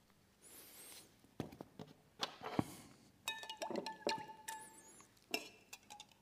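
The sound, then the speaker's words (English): A spoon clinks and scrapes against a glass as a lot of salt is stirred into water to make an egg float, in quick, irregular bursts with brief ringing tones and a soft gritty rustle, with no one talking. “This glass has got no salt in it, so the egg sinks. And I need to put a lot of salt in.”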